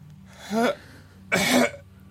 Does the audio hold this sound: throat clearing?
yes